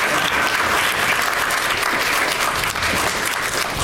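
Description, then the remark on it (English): Sustained audience applause as three introduced guests casually stroll to the stage, a dense, steady wash of many hands clapping at an even loudness throughout, with no talking over it. “They're really making you applaud for a long time with their casual stroll to the stage.”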